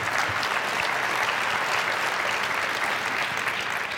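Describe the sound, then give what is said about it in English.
A crowd applauds steadily, a dense wash of many hands clapping at an even, fairly loud level for the whole stretch with no voices on top. “Now you're not, yeah, you can clap.”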